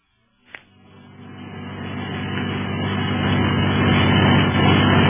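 car engine driving fast

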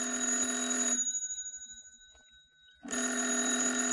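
telephone bell ringing

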